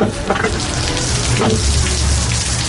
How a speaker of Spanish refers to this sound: Uf, vaya día de invierno que tenemos. No para de llover ni granizar.